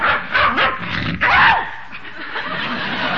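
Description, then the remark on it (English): A small dog yaps, two or three short, high barks with a whiny, rising-and-falling pitch, over a steady hiss of background noise. “Now I even like the dog.”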